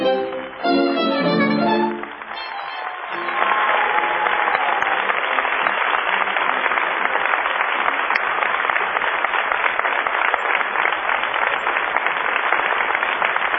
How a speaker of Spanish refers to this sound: Vamos a extender el aplauso saludando a Patricio Bartón.